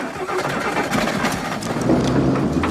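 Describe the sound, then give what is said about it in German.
A car engine revs steadily and loudly as the driver of a stuck car gives gas, its clutch smoking, the rough mid-range drone rising slightly in intensity toward the end, with no voices present. “Stehen dann da und geben Gas und so.”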